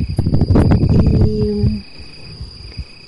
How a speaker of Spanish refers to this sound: es un pájaro que solo canta de noche. Muy al fondo se escuchan algunos grillos que ya empiezan a estridular.